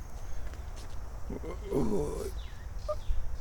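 Odd, warbling bird calls sound outdoors on an overgrown hill along a loop path at Herrenhaven, a wavering mid-pitched call followed by a few faint high sweeping chirps, over steady rustling background noise.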